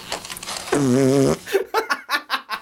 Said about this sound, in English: So oh loud. God. Literally, even the captions say loud fart, not just fart noise, or sometimes the captions for a fart will be like raspberry or something. No, it just says loud fart.